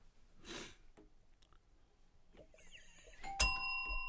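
A doorbell rings once near the end with a bright, sustained chime that hangs in the air, following a mostly quiet stretch with a brief sniff early on.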